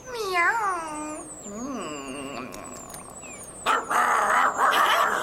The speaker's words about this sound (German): Ein Köter auf dem Dach?